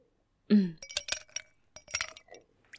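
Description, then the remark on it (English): Glassware handled while a drink is poured: a dull knock, then a run of bright, ringing clinks of glass against glass, irregular and fairly loud, with no voices. “Hey, you pouring one for yourself, or am I just gonna be drinking by myself sooner than I thought, huh?”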